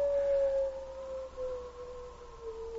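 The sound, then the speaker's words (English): A long, sustained wolf howl holds a steady mournful pitch, sagging slightly as it stretches on, heard alone over a faint background hiss at moderate loudness. “Those wolves know we're going to die. They howl like that when death's at hand.”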